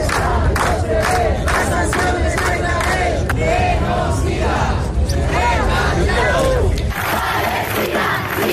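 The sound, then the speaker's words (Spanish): A large protest crowd of thousands, gathered to see off the flotilla and demonstrate against Israel, shouts chants in unison, many voices rising and falling together in loud, rhythmic bursts over a constant roar, with a brief dip near the end before the chanting swells again. “Miles y miles de personas se concentraron ayer desde primera hora para despedir a la flotilla y manifestarse en contra de Israel con gritos como estos.”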